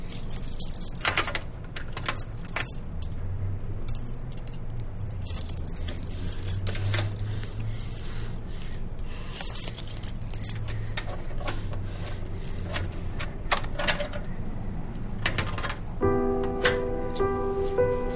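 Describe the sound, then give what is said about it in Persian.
A bunch of keys jangles and clicks in irregular bursts, metal scraping as keys are tried one after another in a lock, with only three keys left to try, a low hum underneath and a brief tonal buzz near the end. “فقط همین سه تا مونده، حالا وا میشه.”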